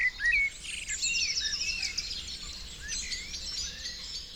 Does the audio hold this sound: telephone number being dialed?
no